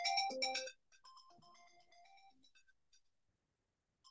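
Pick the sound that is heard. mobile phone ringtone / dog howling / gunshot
mobile phone ringtone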